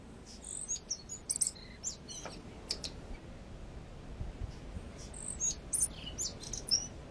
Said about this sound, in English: Oh, I know what I can play, because it's the sound I miss most of all. If I can find one. 20 seconds left. Yeah, I've got one. You put it up. Yep. Native bird. Native bird. Yeah, the tui.